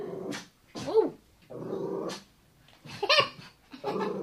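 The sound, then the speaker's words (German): A dog growls in low, rumbling stretches broken by a few sharp, yelping barks, fairly loud, with short pauses between the outbursts and no one talking. “Als die Hund entkomme zum Maul hin und her lopen deit und anfangt zu knurren und blaffen,”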